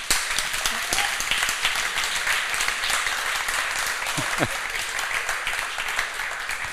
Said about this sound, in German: Ihr müsst leider ein bisschen länger klatschen, weil er hat es mit dem Knie. Das dauert immer ein bisschen.